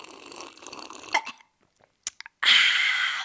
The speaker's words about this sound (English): Let me knock back a gulp. Ew.